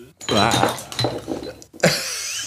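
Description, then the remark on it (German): An empty glass bottle is accidentally knocked over with a bright clink and short ringing rattle, amid voices talking over it. “Nee, ich habe zum Glück nur die leere Flasche umgeworfen.”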